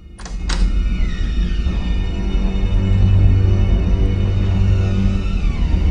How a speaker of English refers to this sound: With the door unblocked, she reaches cautiously for the lock. She turns the lock and slowly twists the brass doorknob.